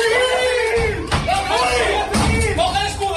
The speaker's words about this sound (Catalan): Estem sentint com la guàrdia tirava la porta a terra